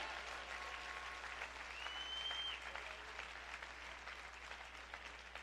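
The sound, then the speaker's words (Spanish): A church audience applauds God, the 'King of Glory', during a worship service: a steady, dense wash of clapping that holds at an even level throughout, with a faint whistle-like tone rising briefly in the middle. “Oh, dale un aplauso al Rey de Gloria, por favor.”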